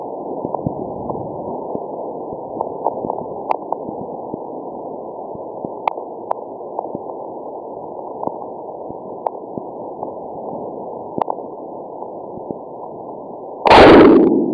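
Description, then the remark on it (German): Sped-up seismic recording of a magnitude 7.5 earthquake in the Wharton Basin, Indian Ocean, several days compressed into 17 seconds: a long stretch of muffled, steady hiss dotted with small pops, then a sudden loud burst of roaring rumble near the end. “Man merkt gar nicht vorher, dass in diesem Rauschen ein großes Brummen enthalten ist vorneweg, aber dahinter dann ganz eindrücklich dieses große Erdbeben.”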